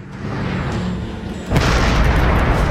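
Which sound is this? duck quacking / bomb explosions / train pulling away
bomb explosions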